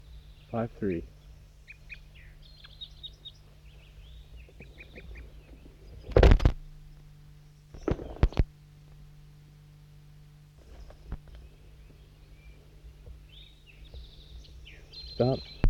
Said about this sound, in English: And it looks like a little wild crossbill just came in, a little male, orangish color.